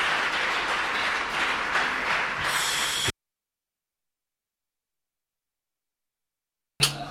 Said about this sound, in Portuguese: E acredito que também temos que aplaudi-los por sua grande contribuição.